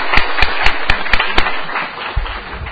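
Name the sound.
applause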